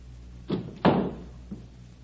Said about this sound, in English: The door opens.